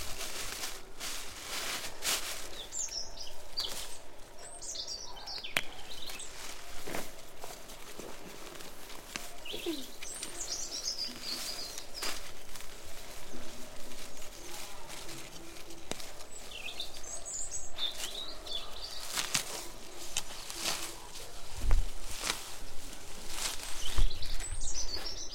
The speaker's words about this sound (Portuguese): Por isso é melhor ouvir o da erva. E o da foicinha.